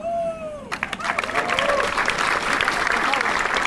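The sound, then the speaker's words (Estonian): A large audience bursts into loud, sustained applause for the architect at the opening of the Muhu song stage, dense clapping after a brief moment of a voice speaking over a sustained tone at the start. “Ja veel kord siis aplaus arhitektile.”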